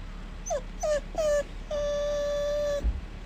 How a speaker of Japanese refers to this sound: くんくん泣いては右手ちょんちょんして、まだかなまだかな、お利口ちゃんに待ってます。お腹すいたの？ご飯食べるか。